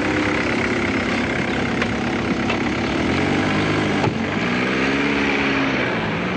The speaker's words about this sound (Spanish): Un taxi llega a la puerta de la casa donde está el apartamento.